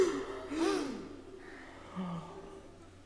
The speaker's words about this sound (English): Can you gasp with me?